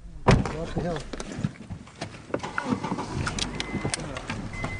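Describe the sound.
People climb into a car, with a solid door thud near the start and more shuffling and clunks after it, while voices murmur indistinctly.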